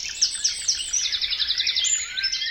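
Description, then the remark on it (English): Rich, rapid European nightingale song with repeated trills and chirping phrases, bright and high-pitched, continuous, with no voices present. “The European nightingale has this astonishing song.”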